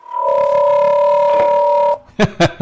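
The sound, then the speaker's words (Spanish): A rechargeable portable radio gives one long, steady electronic beep lasting nearly two seconds, loud, signalling that it is switched on. It cuts off abruptly and a voice starts talking. “Aquí tengo mi radio, vea. La de los robles, vea. Haga que pite.”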